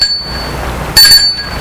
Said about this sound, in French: Il y a un petit mur et une cour. Intérieur, au fond de cette cour, se trouve l'hôtel. Sonne à la porte de son portail.